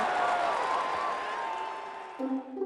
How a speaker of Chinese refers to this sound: 故事开门，请掌声，咕哩咕哩咕哩咕哩。